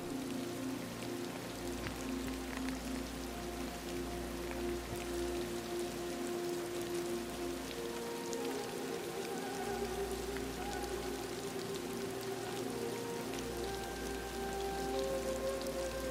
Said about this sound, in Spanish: Quizás tumbarte y descansar mientras escuchas el suave murmullo de la lluvia que te envuelve.